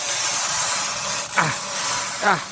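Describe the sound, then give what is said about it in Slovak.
Fingernails scratch across a chalkboard in two short, shrill squealing strokes with sweeping pitch, set against a steady background hiss. “Najhorší zvuk, ktorý poznáte. Za mňa je to jednoznačne škrabanie nechtov po tabuli.”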